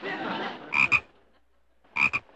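A frog croaks twice, each call a quick doubled ribbit, loud, with a pause of about a second between them and a soft rushing noise just before the first.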